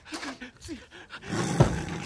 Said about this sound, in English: Oh, he's not kidding. There's a tiger in there.